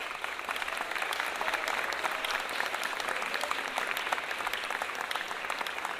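An audience applauds steadily for several seconds, a dense, even wash of many hands clapping at a constant loud level with no speech over it, given in honour of two women.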